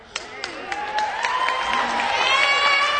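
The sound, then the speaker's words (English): A few sharp, evenly spaced handclaps from an 11-year-old boy sitting front and center ring out alone at first, then a crowd joins in with swelling applause and excited cheering and shouting that grows louder toward the end. “First one to clap, an 11-year-old boy sitting front and center.”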